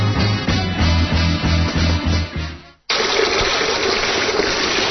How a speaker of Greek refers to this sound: Εσύ, ναι, εσύ που ξυρίζεσαι και το νερό τρέχει.